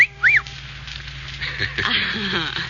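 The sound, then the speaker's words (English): A quick, high whistled note that swoops up and back down in pitch, lasting barely a fraction of a second, then gives way to a muddled stretch of low background sound. “Well, then you should have made the whistle shorter, like this.”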